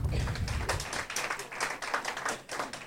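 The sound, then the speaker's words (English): An audience breaks into applause to show by round of applause who believes in spanking kids: a dense, steady patter of many hands clapping at once, holding at fairly even loudness for a few seconds with no voices on top. “By round of applause, who believes in spanking kids?”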